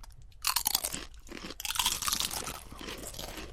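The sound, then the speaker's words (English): Loud, crackly crunching of Doritos Nacho Cheese tortilla chips with salsa on them being bitten and chewed, with bursts of bright, sharp snaps settling into steady munching. No one speaks. “Okay, so now we have the Doritos, which really is just a regular Doritos nacho cheese.”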